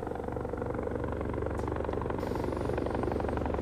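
A Loach helicopter flies overhead in the early morning, its rotor producing a dense, continuous chopping roar that stays loud and constant throughout, with no voices present.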